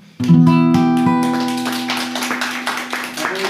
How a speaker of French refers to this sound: La foule applaudit. La foule applaudit.